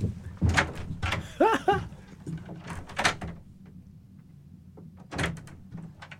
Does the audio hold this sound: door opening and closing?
yes